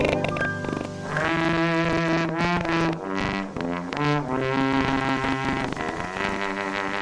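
A slide trombone plays a short melody, with sustained brassy notes and smooth gliding pitch changes between them, steady and fairly loud throughout, no voices.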